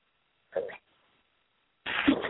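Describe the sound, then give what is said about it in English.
A single fairly loud sneeze, brought on by a bit of salt while making a sauce: a brief breathy catch, a short pause, then the sharp explosive burst of the sneeze itself. “Pardon me, I had a sneeze come on with that little bit of salt that did it.”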